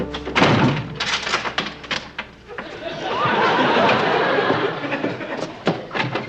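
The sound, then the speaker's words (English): Fairly loud clacks and rattles as a door chain is worked loose, then a softer rushing sweep as the door swings open, with a few scattered knocks at the end. “would you unchain this door?”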